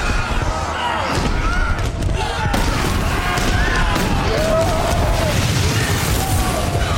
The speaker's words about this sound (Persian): تورمادو گوشاش رو میگیره. انفجار همه ی افراد سپاه گنایت رو پرت میکنه.